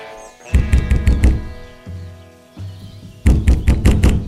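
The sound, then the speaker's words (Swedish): Two quick bursts of heavy knocks on a wooden door, about five raps each, separated by a short pause with a low hum in between; fairly loud, no voices. “Men vad hon inte visste, det var att vid mormors hus, där stod vargen redo att knacka på dörren.”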